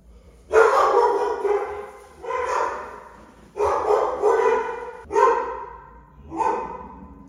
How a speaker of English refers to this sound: I got a thing for some damn dogs barking.